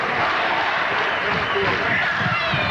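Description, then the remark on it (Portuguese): A volleyball arena crowd at a Brazil match cheers in a loud, steady roar of many mingled voices that holds without a break for the whole few seconds, with no single voice standing out. “A torcida ajuda um pouco agora.”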